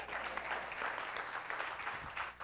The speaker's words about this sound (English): You can clap first if you want to.